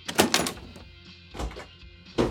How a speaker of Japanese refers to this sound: お、今度は防音扉か。さすが第5スタジオ。お邪魔します。